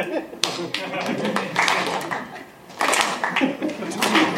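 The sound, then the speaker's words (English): One person claps slowly three times, each sharp smack standing out against a busy background of voices and small clattering noises. “That was me applauding like in a film. Three times.”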